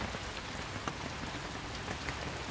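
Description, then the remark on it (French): Steady rain falls on a Japanese garden within a 4-hectare garden evoking the five continents, a dense, even patter with occasional louder drops standing out, continuous with no voices. “Il est beau sous la pluie, ce jardin ?”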